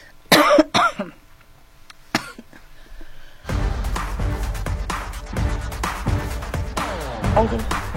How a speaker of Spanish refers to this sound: Perdón la tos, es que no ando muy bien de la garganta,